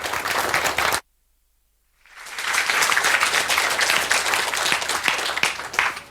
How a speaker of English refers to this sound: So give a warm round of applause and we will start.